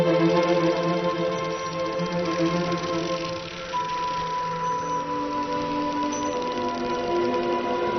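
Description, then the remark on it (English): Dolphins scanning the water ahead with sonar while heading towards the Azores, hunting scad mackerel: a rapid, continuous train of dry echolocation ticking that runs steadily throughout, layered over sustained tonal hums and drones. “The dolphins scan the water ahead with their sonar.”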